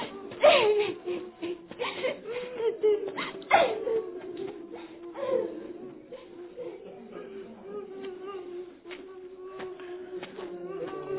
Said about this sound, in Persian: اونا هاش اونجا نشسته داره گریه میکنه.